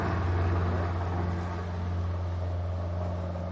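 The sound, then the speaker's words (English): An R-44 helicopter from a helicopter operation at an airport: steady, droning engine roar with a strong low harmonic hum and broad noise above it, holding loud and even throughout with no voices. “But they got that helicopter operation going on right now, right?”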